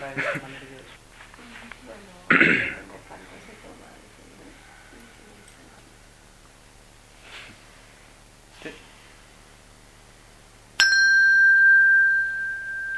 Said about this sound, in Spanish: Me encanta esta campana.